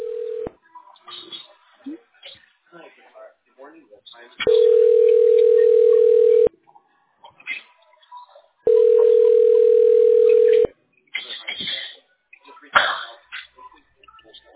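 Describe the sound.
A steady telephone ringback tone sounds in two long bursts of about two seconds each, separated by a pause, with brief muffled voices and small noises in between, while dialing a tax specialist.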